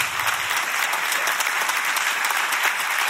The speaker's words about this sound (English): I'm going to try that again. Clap your hands like you're not at the Masters. Clap your hands like what God spoke. There you go. Clap your hands.